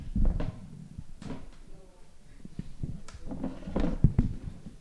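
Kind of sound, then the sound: household object, chair being moved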